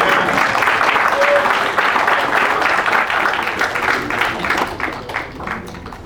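An audience applauds in a steady, dense wash of clapping that slowly thins out toward the end, where individual claps become more distinct.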